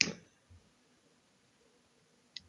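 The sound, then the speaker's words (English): Two sharp mechanical typewriter key clicks, roughly two seconds apart, with a soft thud between them. The strikes are quiet and sparse amid otherwise silence, with no talking. “It was not even a computer, it was a typing machine.”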